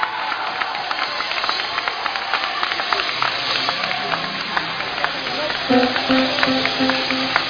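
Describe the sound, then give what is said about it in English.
A large crowd claps and applauds steadily for Jesus, a dense, continuous patter of many hands, with voices rising faintly underneath toward the end. “Come on, clap for Jesus.”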